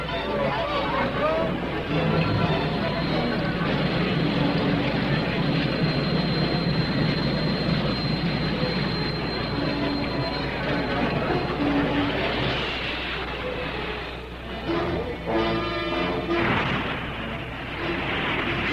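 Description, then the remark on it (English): A turbine race car engine at the 500 race gives a loud, continuous whoosh with a thin high-pitched whine riding on top. Toward the end the rushing sound turns rougher and pulsing before steadying again. “But Joe Leonard of San Jose, California, is curious about a machine that runs with a whoosh instead of a roar.”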